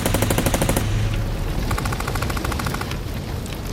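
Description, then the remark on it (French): Two loud bursts of rapid Kalashnikov automatic fire from gunmen answering a police assault team's calls to surrender, each a fast, even string of sharp cracks, separated by a short pause filled with rumbling noise; no voices. “Pour seule réponse, il obtient les rafales de Kalachnikov.”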